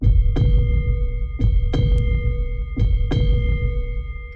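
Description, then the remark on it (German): A heavy, low heartbeat sound effect in a radio advert for Kumbach Mineralwasser, presented as the heartbeat of the Allgäu, thumps in steady lub-dub pairs, three double beats at a slow, even pace, over a constant droning hum with no voices. “Kumbach Mineralwasser präsentiert den Herzschlag des Allgäus.”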